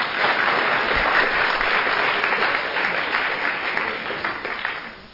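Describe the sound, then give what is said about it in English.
An audience claps steadily in a dense, continuous burst of applause that holds strong for about four seconds and then thins and fades out. “Yes, the clap.”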